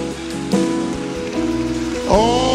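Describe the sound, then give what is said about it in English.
A church audience claps hands steadily as people come forward to receive Jesus, a dense, continuous patter of many hands, with sustained musical tones ringing underneath and no clear talking. “Oh, yes, keep clapping as they come.”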